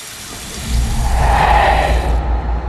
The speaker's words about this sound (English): He turns on the wash basin tap and bends to take a swig of water.